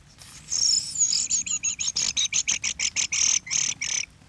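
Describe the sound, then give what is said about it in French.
Thrush calls ring out in a fast, steady run of about fifteen high, bright chirping notes, clear, with no talking over them. “Non, c'est des grives.”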